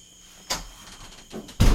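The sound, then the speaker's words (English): A door is shut: a brief scraping slide and a softer knock, then a loud, solid thud as it closes. No one speaks. “You want to close that door before we go for the bugs?”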